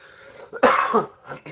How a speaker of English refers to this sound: Apologies. Trying to get over a cold, and I've still got a bit of a cough.